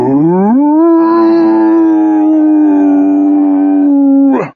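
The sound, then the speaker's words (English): A single long, sustained howl rises steeply at the start, then holds a steady, rich tone for several seconds before breaking off abruptly, loud with no talking, as a voice imitates the story character Wolf, his spoken word turning into a howl. “The word turned into a long, liquid howl.”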